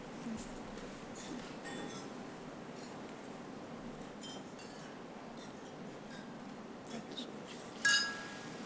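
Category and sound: household object, glasses clinking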